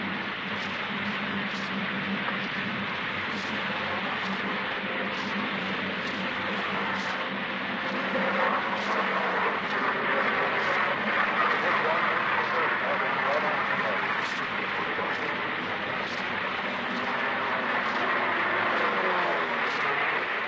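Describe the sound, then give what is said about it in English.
A steady, loud roar of dive bomber aircraft engines as the planes come in dropping bombs near a target, heard from a boat, a dense rumbling drone with faint shifting tones, while a muffled voice talks underneath. “They're all coming in and dropping bombs and landing close to our target, but so far none have hit the target.”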